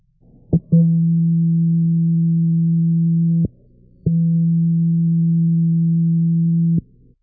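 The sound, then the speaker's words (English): An electronic device sounds two long, steady, low-pitched beep tones, each lasting nearly three seconds and separated by a short pause, loud and alone after a faint click. “Note, beep does not have to be off.”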